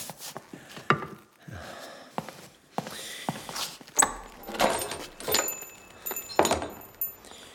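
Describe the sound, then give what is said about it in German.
Keys jingle and a lock clicks and rattles, followed by a door being pulled open, a string of metallic clacks, scrapes and thumps with no one speaking. “Mach mal bitte die Tür auf.”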